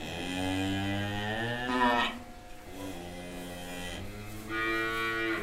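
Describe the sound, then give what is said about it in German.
Cattle lowing, two long drawn-out moos with a short pause between them, rich harmonic calls with no talking; 3 cows with 8 calves lying in the straw on the stable terrace of an organic farm in Oberharmersbach. “Auf der Stallterrasse von Stefan Lehmann in Oberharmersbach liegen die 8 Kälber mittlerweile entspannt zwischen den 3 Kühen im Stroh.”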